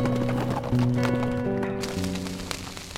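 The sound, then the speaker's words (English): A horse gallops off as its rider spurs it in the opposite direction to return to town, its hoofbeats thudding in a quick, steady rhythm over sustained musical tones, fairly loud throughout with no voices. “He spurred his horse in the opposite direction to return to town by another route and to finish devising his plan.”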